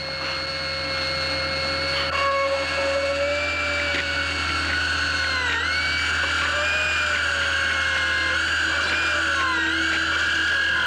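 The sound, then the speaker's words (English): A dental drill whines steadily at a high pitch for several seconds, its tone dipping briefly as it bites into a healthy tooth, drilling toward the pulp; fairly loud, with no talking. “No, it's more like the real thing where you have your eyes clenched shut and you're just hearing the sounds of the drill.”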